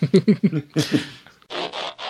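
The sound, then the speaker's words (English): A beagle's reverse sneeze: a quick run of honking, grunting snorts, then several longer, raspy sucking inhalations, fairly loud with no talking. “It's called reverse sneezing.”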